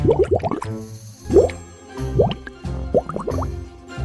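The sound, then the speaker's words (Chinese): Water splashes and sloshes as someone climbs into a bubble bath, a run of bubbly, gurgling plops coming in four or five short bursts with brief pauses between. “离开瀑布一般的淋浴后，雅雅又爬进了像是火山熔岩旁的泡泡浴。”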